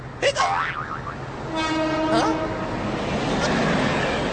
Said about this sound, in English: Tayo, it's the subway train!